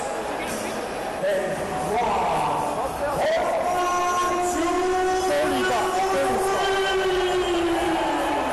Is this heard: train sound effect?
yes